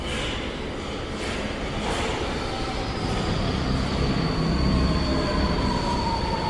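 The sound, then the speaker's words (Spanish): A subway train pulls in at 11:30 on a Sunday night, near closing time, with a deep, steady rumble that swells as it nears, high metallic wheel squeals drawing out over the roar while it slows at the platform. “Se comenzó a acercar a la orilla cuando vio que venía el tren.”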